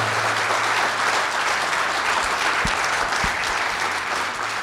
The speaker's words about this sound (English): Let's wrap it up there and give another round of applause